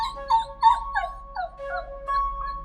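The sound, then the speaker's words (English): A dog waiting to go out, in a house in San Francisco in the morning, whimpers in a string of high, thin whines that rise and fall, one after another with short breaths between, over a faint steady hum. “A dog waiting to go out.”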